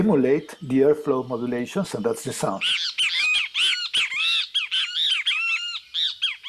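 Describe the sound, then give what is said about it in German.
Computer-simulated bird vocalization, calculated from a model of how the syrinx's vocal folds change the airflow: low, buzzy harmonic notes pulse for a couple of seconds, then give way to a fast, steady run of high, arching, loud chirps, with no talking. “Dann kann man mit dem Computer berechnen, wie sie den Luftstrom verändern und das ergibt das Geräusch.”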